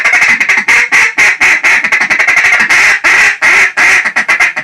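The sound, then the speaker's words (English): A duck call blows a rapid, chattering feed call with quacks mixed in to mimic feeding ducks, loud, with short bursts and brief pauses in an uneven rhythm. “You know, you're just mixing in quacks among things to sound like ducks.”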